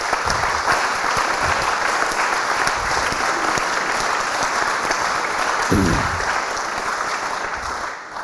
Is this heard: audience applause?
yes